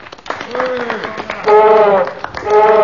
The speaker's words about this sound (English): Right, men, stand by to applaud the elephant. After three. One, two, three.